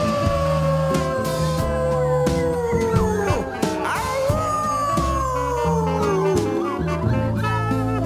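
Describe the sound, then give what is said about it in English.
A person howls like a wolf in two long, sliding wails that fall in pitch, sung loudly over a steady backing of music with bass and drums. “They call me a big bad wolf. Howl with me one more time.”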